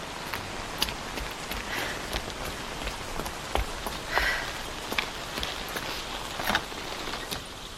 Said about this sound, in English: I would even consider holidaying here, but not for this weather. I should go inside. The rain's getting stronger.